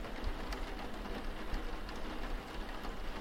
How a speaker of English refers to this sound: I know rain can make just about anyone super sleepy super quickly.